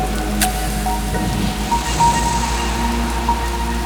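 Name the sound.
raindrops falling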